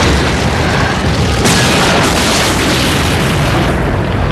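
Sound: huge explosion boom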